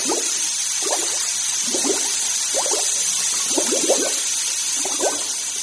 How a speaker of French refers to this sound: Se met à pleuvoir à torrents. Il pleut tant et tant que les rivières débordent.